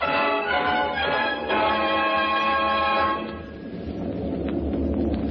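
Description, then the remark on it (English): Steady droning of the motors of a C-54 transport airplane, heard from on board, a loud, layered hum with strong tonal harmonics for about three seconds, then easing into a lower, rougher rumble that continues without talk. “I'm in a C-54 transport. It's a beautiful airplane. The sound of those motors out there is soft and homey.”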